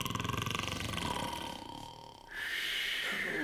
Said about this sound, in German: Ruhe? Habt ihr schon mal zwei Elefanten schnarchen hören?